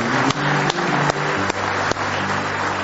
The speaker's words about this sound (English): Somebody say praise the Lord. Let's give him one more hand clap of praise tonight if you love him.